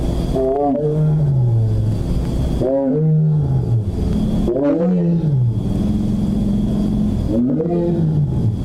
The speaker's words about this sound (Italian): perché vi facciamo sentire una dopo l'altra tre tigri che però sono tutte del Bengala, e il fatto che siano tutte del Bengala parlano chiaramente lo stesso dialetto. Esatto. Ecco. Esatto. Allora sentiamo Bagheera, che è un esemplare maschio.